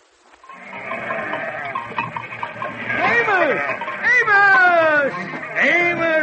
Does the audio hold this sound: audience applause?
no